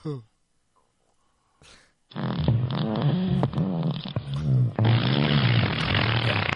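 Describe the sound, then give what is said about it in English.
After a short quiet pause, a loud, drawn-out fart sound effect plays from an Alexa smart speaker on a spoken request, sputtering and wavering for several seconds. “A little one. Fart.”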